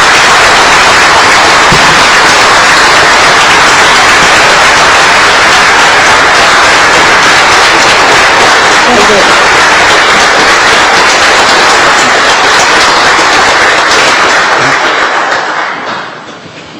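A crowd applauds a 96-year-old man being honored for 64 years of service, loud and steady, dense overlapping clapping with no voices, holding for about sixteen seconds before tapering off quickly at the end.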